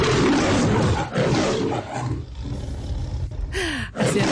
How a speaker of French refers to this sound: J'ai eu un peu peur, ce rugissement d'oignon. C'est le générique de la métro Goldwyn Mayer, Franck. Évidemment, le générique de la MGM, cette espèce de lion qu'on a changé 3 ou 4 fois, je crois. Là, c'est Jackie.